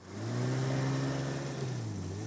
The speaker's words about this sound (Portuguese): Todo dia a gente acorda bem cedinho, toma mingau de banana no café da manhã e quando ouve o motor do barco do seu Zé se aproximando, pega a mochila e corre para a escada.